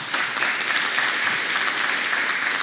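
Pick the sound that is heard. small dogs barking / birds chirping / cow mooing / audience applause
audience applause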